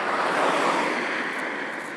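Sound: strong wind blowing outdoors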